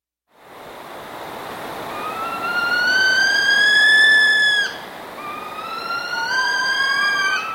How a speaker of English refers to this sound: This is On Point with little saw-wet owl behind us there. Described once by a great bird expert, Scott Wedensall, as the sound of an alien mothership landing.